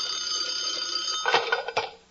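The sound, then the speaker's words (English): An old-fashioned telephone bell rings in a steady, shrill metallic trill, followed near the end by a few sharp clattering knocks, fairly loud, with no voices. “Suddenly, the phone rang.”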